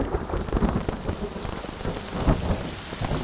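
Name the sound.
rain falling with thunder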